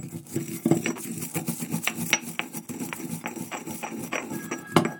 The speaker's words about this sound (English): I don't know if I should grind it anymore. I don't know really how well ground it's meant to be. But for the sake of the sound effect, I'll keep going.